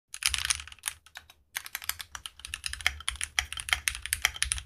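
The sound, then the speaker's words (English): Rapid clicky typing on a mechanical keyboard, a dense stream of sharp keystrokes with a brief pause near the start, then steady continuous clatter. “It feels most like typing on an old typewriter, except a little more pleasant.”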